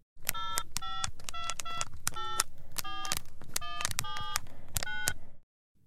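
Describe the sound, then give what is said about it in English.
A rapid series of short electronic keypad beeps as a mobile phone number is dialed to call Ambassador Drury from inside a private plane at a small private airport near Southend, about a dozen tones in quick succession, clear over a steady low background hum. “The man phones Ambassador Drury on his mobile phone.”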